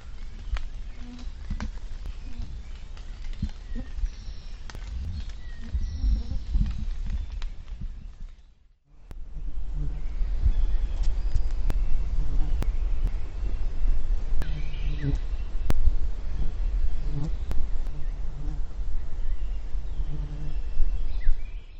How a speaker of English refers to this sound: If you guessed flies, you are right. You heard the buzzing of, first, one of the various species commonly called gnats, and second, of deer flies.